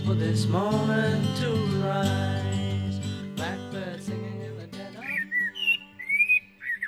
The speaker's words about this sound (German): weil Amselgesang ist einfach so wunderschön